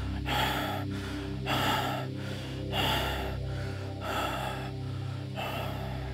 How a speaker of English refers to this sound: Now you have reached the top of the mountain. Your breath continues to rasp in rapid gasps.